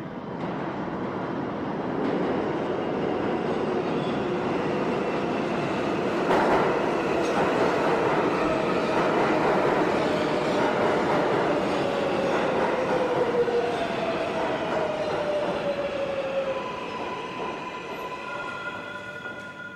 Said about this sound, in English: Ladies and gentlemen, here it is, a Manhattan Bound 7 train approaching Hunters Point Avenue.